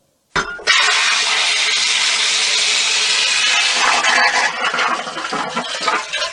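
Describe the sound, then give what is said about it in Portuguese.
A toilet flushes with an abrupt start, then a loud, steady rush of water that churns and gurgles unevenly toward the end, with no voices. “Na casa da Dona Bernardina, todos os sons são possíveis. Menos esse som aqui, ó.”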